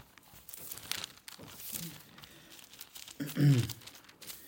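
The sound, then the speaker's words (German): Paper rustles and crinkles as the pages of a Bible are flipped back and forth, several soft swishes building to a louder, crisper turn near the end, otherwise quiet. “Und jetzt müssen wir ein bisschen in der Bibel hin und her blättern.”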